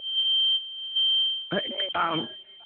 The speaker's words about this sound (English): Okay, what is that? Somebody burning something up? That's me. It's a fire drill. It's a fire drill.